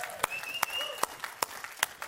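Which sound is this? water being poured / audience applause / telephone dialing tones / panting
audience applause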